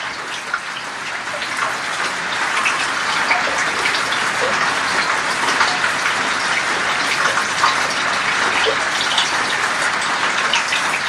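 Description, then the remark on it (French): Heavy monsoon rain pours down steadily, a dense, continuous hiss of countless drops drumming on surfaces, loud, with no pauses or voices throughout. “J'en parle beaucoup de la mousson. C'est un des grands souvenirs, ça. Ce qui arrive, les tonnes et les tonnes de pluie.”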